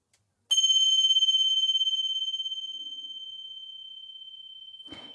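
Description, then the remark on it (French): A single small meditation bell is struck once to start a meditation, giving a bright, clear high-pitched tone that rings steadily and fades slowly with a gentle shimmer. A brief soft rustle follows at the end. “La méditation va démarrer par un petit son, comme une clochette, celui-ci.”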